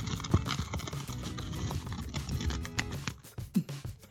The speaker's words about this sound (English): I don't know if my microphones can pick that up or not. I heard paper.